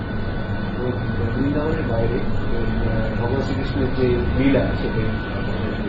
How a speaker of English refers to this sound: Can everyone hear with this air conditioning? Should we switch off? It's very loud, isn't it? Yeah, it is loud.